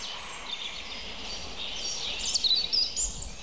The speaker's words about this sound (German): Oh, das Rotkehlchen. Und ich hoffe, ihr könnt ihn durchhören.